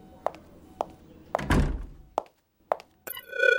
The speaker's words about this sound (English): Close the door.